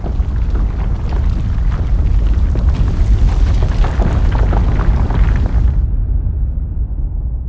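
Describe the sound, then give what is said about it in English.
A loud, continuous earthquake (terremoto) rumble in the audio drama Time Storm, deep and heavy with crackling, crumbling texture on top; after about six seconds the brighter edge drops away, leaving only the low roar. No voices. “What's about to... Terremoto.”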